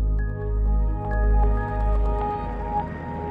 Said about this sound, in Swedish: Det dröjer inte länge innan polisen anländer till stugan med helikopter